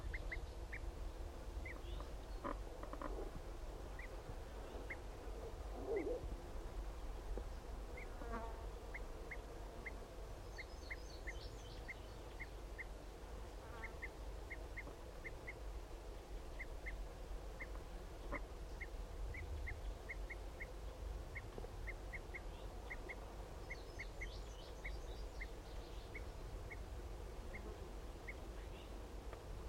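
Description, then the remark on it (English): Repeated short, sharp flight calls from two male birds sound in a steady series over a constant low background hum, with a few brief higher bursts mixed in; no one speaks. “Start recording those both of those males. Giving flight calls.”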